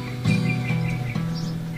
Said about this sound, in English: Bird outside the window. Right there's a bird. Dun, dun, dun. Dun, you hear him? Dude, there's like a ton of birds out here.